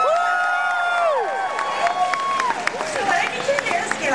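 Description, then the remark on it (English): A large crowd cheers wildly, with loud whoops and whistles rising and falling over a steady wash of clapping and shouting voices, continuous throughout. “Listen, the crowd out there—they love you. Can't you hear them? They're just going crazy.”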